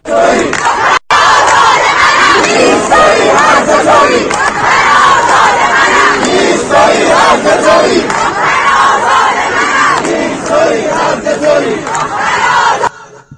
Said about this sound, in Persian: اینم باز برای این بود که جمعیت رو ببینین و اون این شعارم میگم یکی از اون شعارهایی که خیلی عمومیت پیدا کرده.